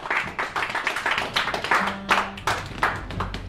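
An audience applauds a performer before a short musical piece, a dense, steady burst of clapping that holds at a fairly even level for a few seconds, with a faint low tone humming underneath toward the end.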